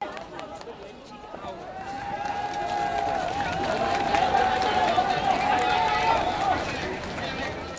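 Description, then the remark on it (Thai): A large crowd cheers and shouts in a dense, continuous roar that swells through the middle, with one long sustained call held above the din for several seconds, as rescue workers carry a teenager pulled from a collapsed building's rubble after a 7.8-magnitude earthquake on a stretcher to a vehicle. “ฝูงชนในคงเขตพากันห้องเสียในขณะที่พวกพนักงานซอยกู้ภัยเฝ้าหามวัยรุ่นคนนี้ออกจากเครื่องหามคนเจ็บไปใส่รถนั่น”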